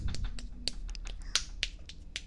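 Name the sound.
hand slapping thigh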